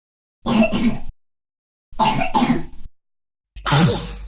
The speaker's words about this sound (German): Erkältung mit Husten und Schnupfen, Klassiker.